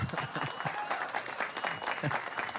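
Audience applause fills the space, a steady wash of many hands clapping at moderate loudness throughout, with a few voices faintly audible beneath it.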